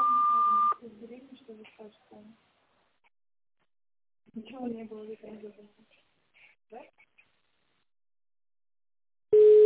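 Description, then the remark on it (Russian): A steady, loud telephone beep tone sounds briefly at the start. Recorded automated speech follows, the answering message of the Kirov Sanatorium phone line, then a lower-pitched beep begins abruptly right at the end. “После длинного сигнала переведите свой аппарат в режим тонального набора и наберите внутренний пятизначный номер абонента.”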